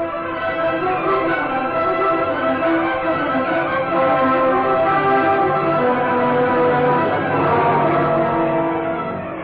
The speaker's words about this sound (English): Outside the house, Brick Reed, after pressing the door chimes for a fourth time, turned to Commissioner Higgins. Well, that's strange. Surely someone in there has heard me ring.